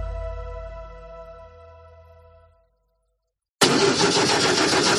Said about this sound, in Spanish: Así suena el motor de un coche mal cuidado.